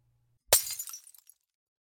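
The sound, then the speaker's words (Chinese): A single sharp, loud smash as something is hurled onto the floor and breaks, followed by a brief scatter of tinkling fragments settling, with no voices. “你怎么往地上砸呀？”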